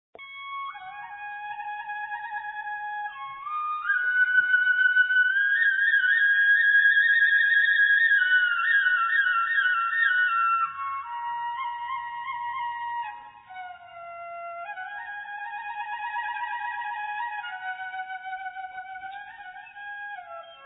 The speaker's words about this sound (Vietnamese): với chính giọng ngâm tác giả, phụ họa bởi Tiếng Sáo Trúc